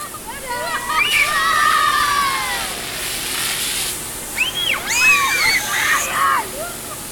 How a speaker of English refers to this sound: we all squeezed into the cab of the fire truck, then got out again and had a go at spraying the hoses.